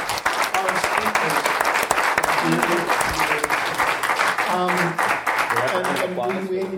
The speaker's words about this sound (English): So thank you all for coming. Quick round of applause for our speakers.